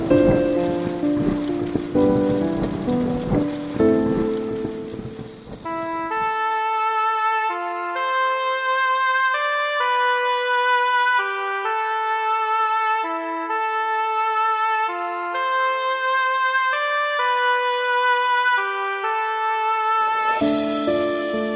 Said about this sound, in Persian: مرا مستم کن ای مهر و لطافت، مرا خیس از همین پاکیزگی کن، که با این بارش و آهنگ باران من و این روح سرکش همچو یک اسب برقصم.